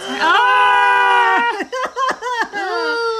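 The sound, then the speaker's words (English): A person lets out a loud, sustained high-pitched scream that breaks into several short, wavering shrieks near the end, without any talking. “I think I'm screaming more than you this time.”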